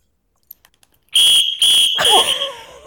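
A loud, shrill whistle blown in three sharp blasts, the last one trailing off, preceded by a few faint clicks.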